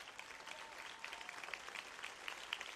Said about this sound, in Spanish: Vamos, sosténgalo por 30 segundos. Sostén ese aplauso para Jesús. Sostén ese aplauso para Jesús.